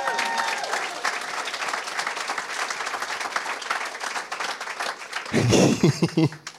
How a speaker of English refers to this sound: Yeah, you can applaud for that game too.